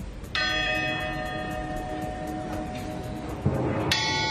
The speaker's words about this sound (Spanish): Seguro que te acuerdas de esta campana porque la tocaban los atletas que ganaban las pruebas de los Juegos Olímpicos. Bueno, pues a partir de hoy su lugar va a ser Notre Dame para unirse al resto de campanas de la catedral.